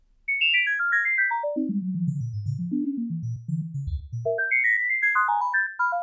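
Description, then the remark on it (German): A continuous series of pure electronic sine tones traces the curve of a plant's activity, measured as voltage fluctuations through electrodes attached to its leaves. The tones step down from high notes into a low, wavering stretch, then leap back up to high tones, with no talking. “Eine Sinustonreihe bildet den Kurvenverlauf ihrer Aktivitäten ab.”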